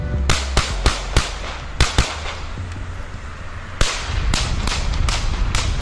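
A rapid, uneven series of about a dozen sharp gunshots, fired into the air from a car during a music video shoot in Bjurhovda centrum, Västerås, Sweden, on the night of 31 July 2020, cracks out in clusters over a steady outdoor rumble, with a brief pause in the middle before another burst.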